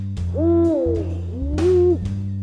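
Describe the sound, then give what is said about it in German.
Two deep, drawn-out hoots of a Eurasian eagle-owl, each rising then falling in pitch, fairly loud, with a steady low hum running underneath. “U wie Uhu.”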